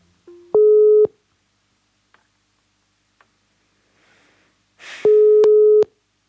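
A phone's ringback tone while calling a friend sounds twice, each a loud, steady half-second electronic beep separated by a pause of several seconds, with faint clicks and rustle in between.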